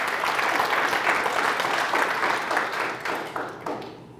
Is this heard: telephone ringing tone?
no